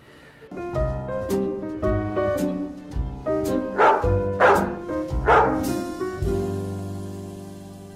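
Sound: dog barking and howling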